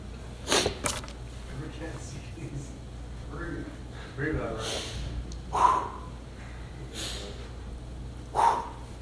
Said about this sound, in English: Tactical breathing, it works.